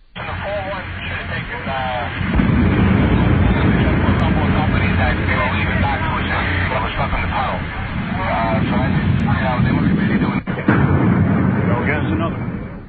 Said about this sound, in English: So you get the picture. Enormous explosions in these towers brought them down.